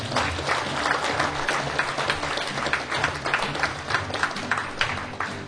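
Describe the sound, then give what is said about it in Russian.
An audience applauds steadily for several seconds for a patronage volunteer coordinator, a dense, even wash of many hands clapping at a moderately loud level with no talking over it. “Лично от меня аплодисменты.”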